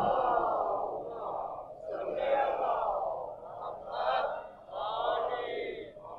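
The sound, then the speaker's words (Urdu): A large crowd chants durood, a blessing on Muhammad and the family of Muhammad, together in unison, voices swelling in several loud rhythmic waves with brief dips between phrases, a dense, echoing collective recitation. “مل کے درود بھیجیے محمد و آل محمد پر.”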